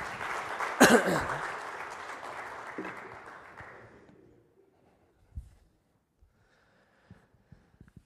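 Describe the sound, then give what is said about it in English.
An audience claps loudly for the actors after a performance, a dense wash of applause that starts strong and gradually thins out over about four seconds, leaving a few scattered claps and light noises afterward. “Let's have a round of applause for our actors.”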